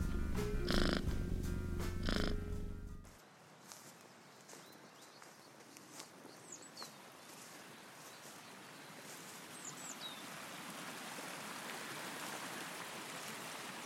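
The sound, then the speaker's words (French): A river rushes in a steady, even wash of water noise after a short, louder tonal sound at the start, with a couple of faint bird chirps above the flow. “Il y a la rivière d'abord.”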